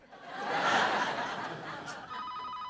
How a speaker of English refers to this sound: He jumps, then answers the phone.